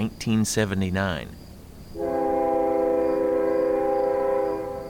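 A loud, steady train horn sounds one long sustained blast lasting a few seconds, after a brief burst of wavering, voice-like tones at the start, from the last Amtrak train out of Nashville on October 8, 1979, with Al Gore aboard.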